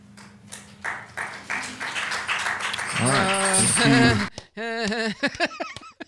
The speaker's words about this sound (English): Not sure what we're clapping for. Sounds vaguely like a threat. I hope it wasn't.